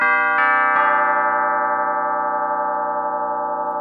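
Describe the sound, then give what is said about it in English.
A synth orchestral tubular bells patch strikes three quick notes in succession, then the rich metallic chime rings on alone, sustaining steadily with a slow, gentle decay. “Orchestra tubular bells. Oh, tubular bells.”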